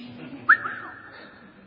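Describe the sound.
A single wolf whistle from men whistling at someone seen from behind sounds out, sliding sharply upward and then gliding along before fading, over a faint low background hum with no talking.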